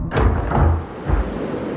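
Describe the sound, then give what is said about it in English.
A front door bursts open with a couple of heavy low thuds, over a steady rushing roar of storm wind that keeps blowing through the whole moment, with no voices. “It burst open with all the force of the storm outside.”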